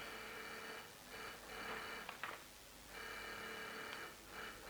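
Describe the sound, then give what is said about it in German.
A doorbell, recognized as the General's ring, sounds in a steady series of bright, buzzing bursts, each lasting about a second with short gaps between, fairly soft and with no voices over it. “Ist ja nicht möglich, aber das ist doch sein Klingeln.”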